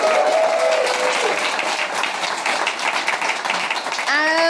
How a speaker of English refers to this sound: keeping doubt at bay like a self-medicating hypochondriac armed with apples over in Pedant's Corner, please applaud our resident stickler,